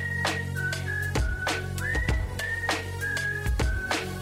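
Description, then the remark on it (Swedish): A clear, steady whistled melody in a Swedish-language song, moving between a few sustained notes, riding over a thumping beat with sharp percussive hits and a deep bass line, with no voices. “Du har hört den förut så du visslar med mig bara.”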